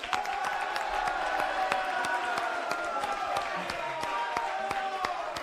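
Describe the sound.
Schoolmates accompanying a student team at a contest final cheer and clap steadily, sharp hand claps scattered over a dense wash of excited voices and shouts that holds at a lively level throughout.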